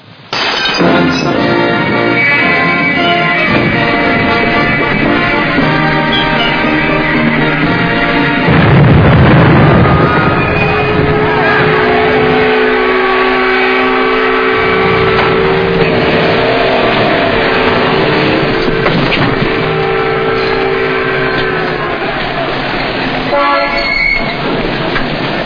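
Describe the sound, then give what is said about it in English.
The US ship Alaska sliding down the ways at its launch and christening: a loud, continuous roar with a heavy rumble midway, while sustained horns and whistles blare over the din for nearly half a minute. “I switch you over to our microphone near the bow of the ship so that you may hear the actual launching.”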